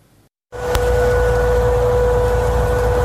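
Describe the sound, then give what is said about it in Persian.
After a brief silence, a loud air-raid warning siren in western Tehran, Iran, starts abruptly at midnight on a Friday and holds one steady, droning tone over heavy rumbling background noise; residents said it sounded for about 15 minutes. No one speaks. “شنیده شدن صدای آژیر خطر در غرب تهران در نیمه شب جمعه، صدایی که به گفته ساکنان این منطقه نزدیک به 15 دقیقه طول کشید و باعث سردرگمی و نگرانی مردم در غرب پایتخت شد.”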